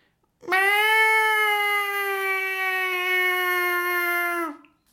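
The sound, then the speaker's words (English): A single very loud, drawn-out cat meow, held steadily for about four seconds, with a slight drop in pitch at the end and no voices around it. “This is no exaggeration, the noise the cat makes, right?”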